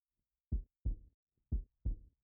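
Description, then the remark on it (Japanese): A muffled human heartbeat, pounding with excitement while two people embrace: two lub-dub pairs of deep, low thumps in a steady rhythm, heard alone with no talking. “心臓の音、聞いてほしい。ほら、聞いて。”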